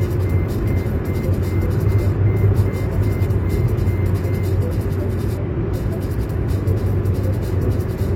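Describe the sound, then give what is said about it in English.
A car's seatbelt warning chime beeps in a steady repeating pattern, set off by a case of drinks on the other seat, fairly faint beneath the loud, constant rumble of road noise inside a moving car. “beeping is the car deciding that this case of drinks in the other seat is a person and that I should really buckle the seatbelt over there.”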